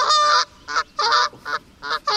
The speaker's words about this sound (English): That's geese. Geese or goose? Do you think that's more than one?